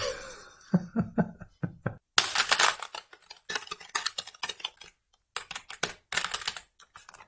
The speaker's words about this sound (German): Oh, jetzt habe ich das Gefühl, du hast ein ganz langes Wort gesucht. Ja, obwohl ich sehr, sehr lange getippt habe, das Wort ist eigentlich ganz kurz